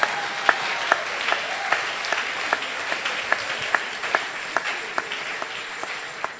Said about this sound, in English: you can clap your hands for the Lord.